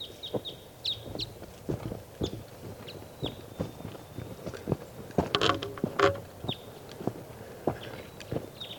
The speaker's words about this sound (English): Wild bird.